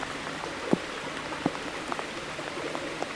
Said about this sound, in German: Machen wir da eine Aufnahme. Das ist der Bach, der jetzt da, das Bächli, all die Regentröpfen.